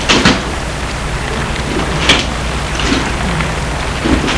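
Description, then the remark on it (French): A car door opens and shuts as a car stops in front of a hotel on Place Bellecour, giving a few short clunks and rattles spaced over several seconds against a steady, hissing background like rain. No one speaks. “Porte de voiture.”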